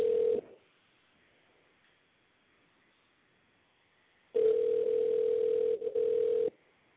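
A telephone ringback tone as a phone call is placed to a guest on the show Smooth Drama: a steady, mid-pitched electronic buzz cuts off briefly at the start, then after several seconds of silence rings again for about two seconds. No one speaks.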